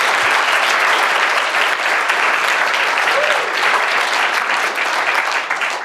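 Loud, sustained audience applause, a dense wash of many hands clapping steadily at an even level for several seconds without letting up.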